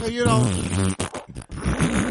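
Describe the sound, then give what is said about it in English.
A run of loud, buzzy farting sounds from a movie scene of people sitting around a campfire, one drawn-out rumble followed by several short sputtering bursts, prominent over about two seconds. “He said those are the best parts of the movie, like the fart scene.”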